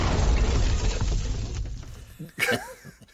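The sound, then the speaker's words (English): A bomb drop sound effect: a loud, deep booming rumble that rolls on for over a second, then fades out into scattered crackles and a brief sharp burst near the end. “Wow, I guess that wins. Bomb drop.”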